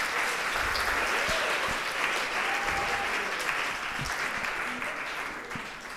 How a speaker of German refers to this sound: Danke, gebt mir mal einen Applaus für die drei.